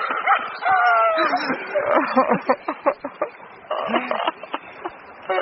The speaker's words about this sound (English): The pet dog's gone bonkers, screams Bonaro.